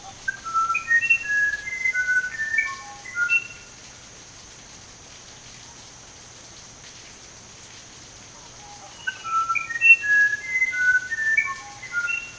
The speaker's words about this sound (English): What is that? A musician wren, one of the most enchanting birds of South America.